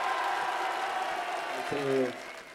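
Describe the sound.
An audience applauds in a dense, steady wash of clapping that fills the whole moment, with a short voice or shout briefly rising above it before the applause eases slightly.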